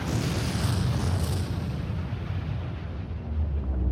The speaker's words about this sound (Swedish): Men de hinner inte vara ute särskilt länge innan de hör en kraftig explosion.